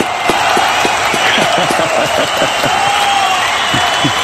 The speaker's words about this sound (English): And the crowd goes wild.